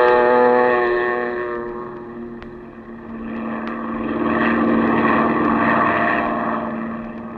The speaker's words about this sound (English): Then you wade out to the plane, and a few minutes later, you're skimming across the bay, headed toward the Gulf.